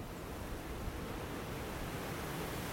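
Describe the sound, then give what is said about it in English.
Strong wind roars in a steady, unbroken rush for a few seconds, a dense hiss with little variation in loudness and no voices, on a very windy Monday, 9 November, with wind like the edge of a hurricane. “No, actually, it's very, very windy.”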